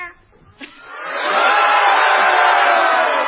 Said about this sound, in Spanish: Del público. Nosotros también podemos hacer, bueno, un pequeño alarido de rebeldía. ¡Ah! Vale. Somos rebeldes, pero honrados. Ahora vamos a un grito de rebeldía desde aquí, desde Lomas del Palomar.